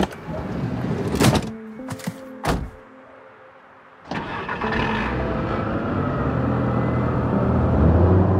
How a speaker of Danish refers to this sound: Skal jeg lukke døren? Ja, det må du egentlig gerne.